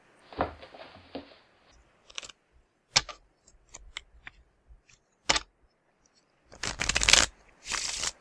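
Playing cards are handled with scattered light snaps and taps, then shuffled in two dense, rapid riffles near the end. Fairly quiet, with no talking.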